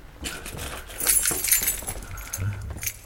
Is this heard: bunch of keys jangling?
yes